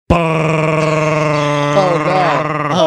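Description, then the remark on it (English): A voice mimics the air conditioner of a used car with a loud, steady, buzzing drone held for nearly three seconds, its low pitch wavering and bending upward near the end. “Used car with the wonderful air conditioning that goes like this.”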